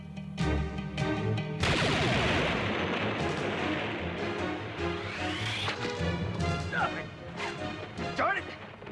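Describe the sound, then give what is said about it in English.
A loud, booming blunderbuss blast erupts, followed by a long rumbling crash as someone is sent through a stone statue into a wall and buried under falling rubble, with brief vocal sounds before and near the end. “shoots him with the blunderbuss, sending Bravestar crashing through a stone statue and into the wall where he's covered by the falling rubble”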